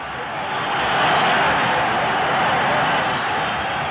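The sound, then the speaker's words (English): A large stadium crowd of Vikings fans roars and cheers for their defensive unit during a football game against the Rams, in a dense, continuous wash of noise that swells slightly after the first second and then holds steady and loud. “The Viking fans cheering their defensive unit.”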